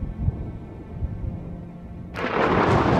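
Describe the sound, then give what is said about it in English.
A low, deep rumble of thunder from a lightning storm under a dark, cloudy sky rolls for a couple of seconds, then a sudden loud, crackling roar bursts in and fills the rest of the moment, powerful. “Now bolts of lightning shoot from a dark sky full of clouds.”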